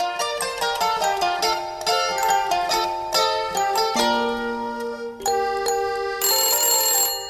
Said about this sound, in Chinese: 电话铃响打断了他们的谈话。